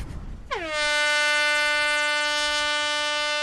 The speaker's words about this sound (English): With a loud horn, the first round of the day is set into motion.